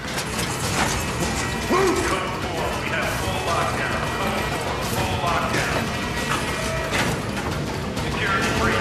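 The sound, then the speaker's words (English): Auto-locking doors are unlocked with keys stolen from a guard, the mechanism unlatching with steady mechanical ratcheting and clanking that continues loudly throughout, layered in dense metallic clatter, with muffled voices faintly underneath. “At the alarm, Jack acts swiftly, knocks out the returning guard, steals his keys to get through the auto-locking doors, and makes a run for it.”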